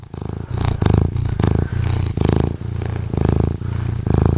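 A cat purrs loudly, a low rumbling vibration swelling and easing in a steady rhythm of about eight breath cycles, with no talking.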